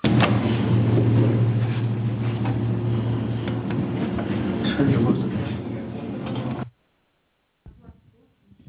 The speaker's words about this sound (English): Yeah, I think it was neighbor's washing machine was on there.